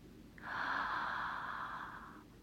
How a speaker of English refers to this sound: Deep breaths, baby, deep breaths. Follow my breathing, okay? Breathe in.